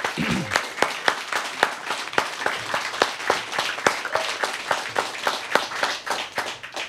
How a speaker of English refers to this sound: A round of applause for our project team.